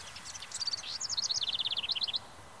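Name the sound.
birds singing outdoors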